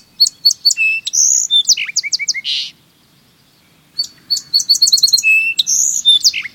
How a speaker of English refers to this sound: On brighter fall days and on clear, cold winter mornings with a touch of sun, listen for the song sparrow's rich, melodic phrases.